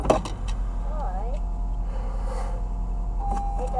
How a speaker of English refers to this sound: And I am very low on gas. You see, hear that beep? That beep is the car telling me that I need gasoline. Hear it?